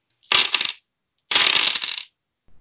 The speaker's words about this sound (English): I've been playing with some dice